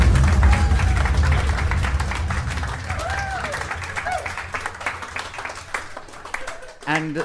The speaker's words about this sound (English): Round of applause!